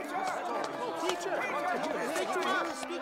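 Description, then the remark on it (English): A dense crowd of overlapping voices in a crowded market square chatters continuously, a steady hubbub of many people talking at once with no single voice standing out. “But the market square was crowded, and Zacchaeus was too short to see over the people's heads.”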